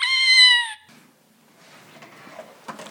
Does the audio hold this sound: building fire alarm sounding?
no